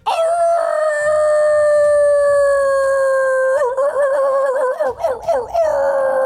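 A dog howls in one long, loud, sustained note that holds steady, then wavers and breaks into quavering pitch swoops near the end.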